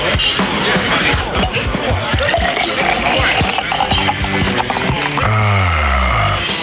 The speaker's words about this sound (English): Listen to the sound of those carefully crafted Miller Lite bubbles.